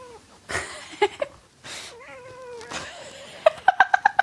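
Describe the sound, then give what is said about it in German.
A cat meows in a home office, one drawn-out wavering cry in the middle, surrounded by soft rustling and thumps, with a burst of short, chirpy calls near the end. No one speaks. “Aber Katze muss zur Corona-Zeit nicht drin bleiben, oder?”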